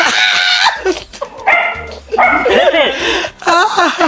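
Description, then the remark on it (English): Dogs bark and yip in loud, repeated bursts, with short pauses between outbursts and a person's voice briefly heard among them. “Oh, for crying out loud, the dogs are barking.”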